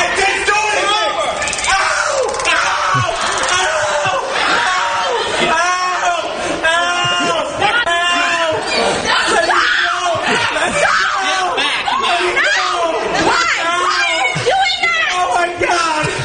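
A man screams and howls in pain over and over, loud, as police tase him at a speaking event, while a crowd of voices shouts and yells around him without a break.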